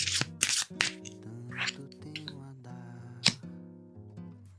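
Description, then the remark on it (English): A deck of cards is shuffled in a few quick, crisp bursts of riffling and snapping, scattered across the moment over soft, sustained background music. “Okay, so let's shuffle these cards.”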